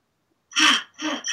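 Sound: rapid fast breathing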